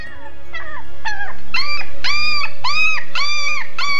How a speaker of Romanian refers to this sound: Dar de unde vine acest lătrat plângăcios?